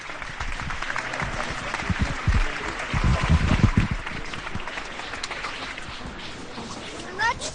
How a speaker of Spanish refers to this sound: rompen aplausos esta Plaza de las Pasiegas.